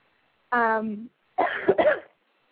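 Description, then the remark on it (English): A short voiced sound with falling pitch, then after a brief pause a rough, raspy double cough, fairly loud, with no talking around it. “I'm sorry, between coughing and all this other stuff, I'm just a mess to listen to, so sorry about that today.”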